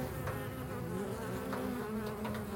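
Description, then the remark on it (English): A dense, continuous drone of many bees buzzing in a nest inside a wall, muffled and low, holding steady at moderate loudness throughout with faint flickers of higher whine and no voices. “I think about the bee's nest a lot, and the scratches have turned into full-on buzzing.”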